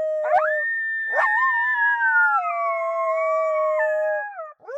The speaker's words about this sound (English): Then we've got Heat Seeker. That's Moto Moto and our 6-year-old coyote Apollo howling together.